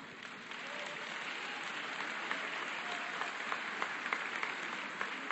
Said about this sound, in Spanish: Me dirijo con el antropólogo Abel Barrera Hernández, director del Centro de Derechos Humanos de la Montaña Tlachinola de Guerrero. Le pido ese aplauso.